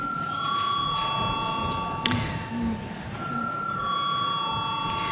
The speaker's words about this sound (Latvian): Lūdzu, zvanu.